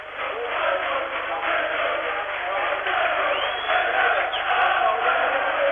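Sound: football stadium crowd cheering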